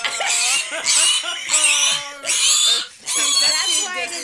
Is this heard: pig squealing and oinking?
yes